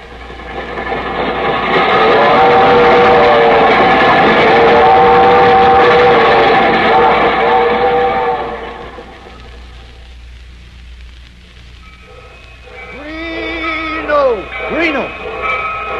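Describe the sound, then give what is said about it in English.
A train, the Albany Special leaving a station on track 6, rumbles and hisses loudly for several seconds, then fades, leaving quieter station ambience before voices begin speaking at the end. “The Albany Special leaving on track 6.”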